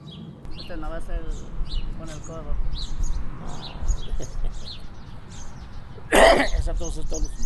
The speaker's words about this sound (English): … says he gets that cough every winter. He did not cover the cough either.